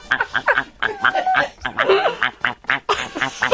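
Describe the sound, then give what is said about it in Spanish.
A person imitates a duck with a quick, irregular run of nasal, raspy quacks, fairly loud, with snickering laughter mixed in. “Pato.”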